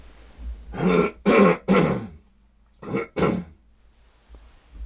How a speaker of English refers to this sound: I'm going to cough again.